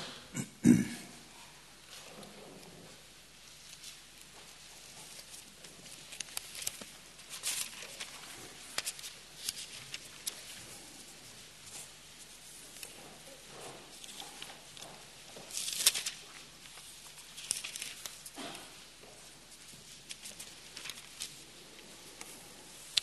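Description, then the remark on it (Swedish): Many bible pages rustle and flip at once as people turn to the Second Epistle to the Thessalonians, chapter 2, a soft, scattered papery shuffling with brief louder swishes rising now and then over a low background hush. “Och vi ska bläddra till andra Thessalonikerbrevet, kapitel 2.”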